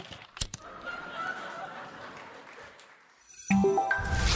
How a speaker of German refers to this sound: Wir klatschen nur. Wir sind ja Hoffenheimer, was? Wieso klatscht ihr nur? Wir sind taubstumm.